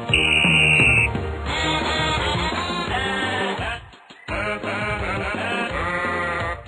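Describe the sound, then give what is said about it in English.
A loud, bouncy World Cup novelty song from the English county of Cumbria, which accompanies a video of sheep playing soccer. Bleating, sheep-like vocal sounds play over busy music. It opens with a shrill buzzer-like tone and briefly drops out near the middle before resuming. “The song accompanies a video of sheep playing soccer.”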